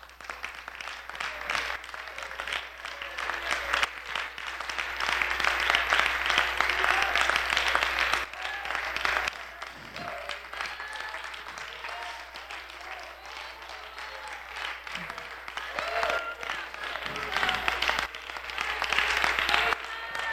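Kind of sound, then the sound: crowd, audience clapping hands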